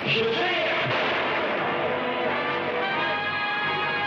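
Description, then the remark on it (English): A loud clap of thunder bursts in at once and rolls on as a dense, rumbling roar for several seconds, fading only slightly by the end. “The clap of thunder should tell you who our guest is today.”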